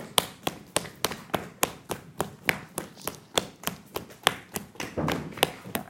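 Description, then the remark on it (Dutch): Firm, steady tapping on the sole of a foot, with the top of the foot laid on the ground, about three slaps per second, each a dull thud with a crisp edge, continuing for several seconds with no talking. “En dan stevig de zool van de voet kloppen.”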